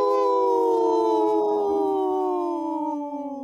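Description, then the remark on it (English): Several human voices imitate a wolf howl together on the Native Roots Radio show I'm Awake, a long sustained wavering cry that slowly drifts downward in pitch, loud, lasting a few seconds with no talking. “Wow, that was the best howl we've had in a long time”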